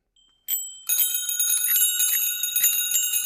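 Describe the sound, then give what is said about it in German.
A bicycle bell rings during a bicycle bell test: a single bright ding, then a rapid, sustained trill of metallic rings that stays loud and shimmering, with no talking. “laut Straßenverkehrsordnung sollte nämlich eine Fahrradklingel einen hell klingenden, kräftigen Ton haben”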